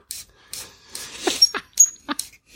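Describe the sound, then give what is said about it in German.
An unoiled Screwpull corkscrew squeaks as it is turned, giving a series of short, irregular, high-pitched squeals and creaks, some with a thin whistling tone, with no voices. “Wenigstens quietscht der. Fieses Geräusch. Screwpull ein bisschen.”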